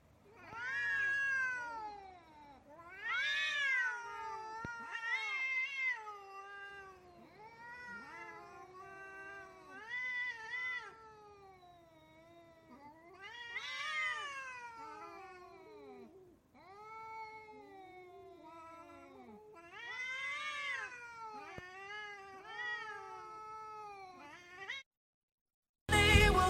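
Cats meow and caterwaul in a long run of drawn-out, wavering yowls that rise and fall in pitch, loud and close, with no one speaking, ending with a short pause.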